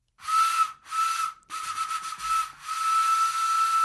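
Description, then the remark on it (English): A breathy homemade whistle made from a walnut shell, built in February 2008, sounds a steady high tone in several blown bursts, two short ones, then longer airy blasts full of hiss, fairly loud with no talking. “This was built back in February 2008, a whistle made from a walnut shell.”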